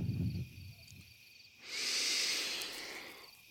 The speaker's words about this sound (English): Oh, I'm breathing deep.